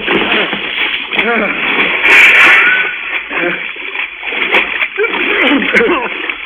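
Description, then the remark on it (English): A loud splash of people going overboard from a boat into cold water bursts out midway, with voices talking and shouting before and after it. “over the side, Doc.”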